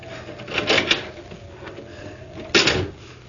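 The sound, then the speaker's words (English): An unlocked house door is opened: a short rattling clatter of the latch and handle, a brief pause, then a second sharper knock-like thump. Fairly clear, with no voices. “Here's a door. It's only unlocked. Oh, it is.”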